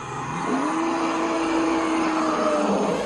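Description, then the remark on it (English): Forest elephants at about 3 a.m. in the middle of the Congo: a long, steady low tone rises and holds for a couple of seconds over a dense, unbroken hiss of crickets and insects, with occasional birds and no one speaking. “So we're listening to forest elephants at about 3 o'clock in the morning in the middle of the Congo.”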